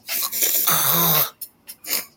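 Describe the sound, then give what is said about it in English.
A loud snore, likely a voice imitating it, from people lying asleep on the floor: a long raspy inhale with a low rumbling rattle, then a few short breathy puffs trailing off. “Also, there was snoring in the mouth. Snoring really loud.”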